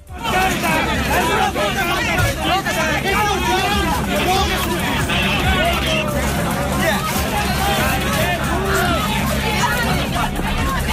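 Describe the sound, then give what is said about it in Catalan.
A protest crowd in uproar during police charges at the Museu de Lleida, where the Guàrdia Civil took away the Sixena artworks: a loud, unbroken wall of overlapping shouts and yelling voices over a low rumble, staying intense for the whole stretch. “Després d'un llarg matí de certa tensió per la presència policial al Museu de Lleida, hi ha hagut càrregues que podem sentir ara.”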